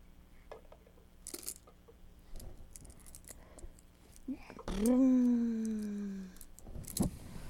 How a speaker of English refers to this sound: Keys.